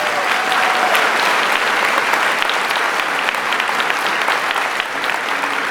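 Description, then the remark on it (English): Sustained audience applause for the production team, a dense, steady wash of many hands clapping at an even loudness for several seconds, with no voices standing out. “So round of applause for production team, please.”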